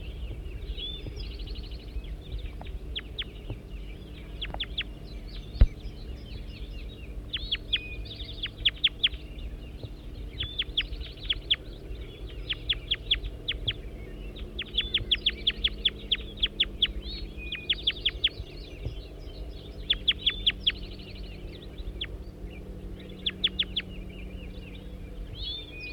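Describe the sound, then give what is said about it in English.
Repeated bursts of high, chattering bird calls from recording of bird 205 come in quick clusters over a steady low rumble, with short gaps between each flurry of sharp chirps. “Back to bird 205.”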